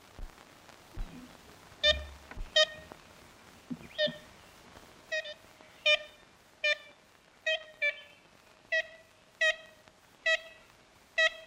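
ivory-billed woodpecker calls

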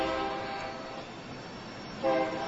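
train horn

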